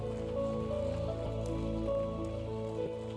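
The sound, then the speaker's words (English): An audience gives a clap offering to the Lord God in a steady, dense patter of clapping that holds for a few seconds, with sustained keyboard chords playing underneath and no one speaking. “Come on, give the Lord God a clap offering.”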